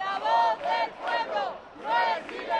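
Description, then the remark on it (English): A large protest crowd of thousands chants in loud, rhythmic bursts outside the Spanish parliament in Madrid, angry over the dismal economy, many voices rising and falling together in repeated shouted phrases, energetic. “Thousands of Spaniards rallied outside Parliament, the symbol of Spanish power and increasingly the target of anger over the dismal economy.”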